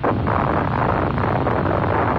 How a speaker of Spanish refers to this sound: ¡No, es un volcán! Oh. ¡Estamos parados sobre un maldito volcán!